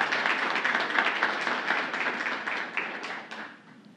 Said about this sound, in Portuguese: Pedimos mais uma vez a calorosa salva de palmas à Alta Escola São Cristóvão.